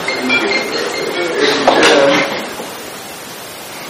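A mobile phone ringtone for an incoming call chimes steadily at moderate volume, its bright tones blending into a faint rustling background with no clear talking.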